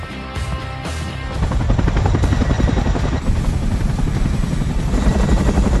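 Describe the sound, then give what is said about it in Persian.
A helicopter roars overhead, flying south from Guadalajara, its rotor blades chopping in a steady rapid rhythm that grows louder after the first second and stays dominant, with no voices present. “Tienen líneas de investigación abiertas y un helicóptero en el aire.”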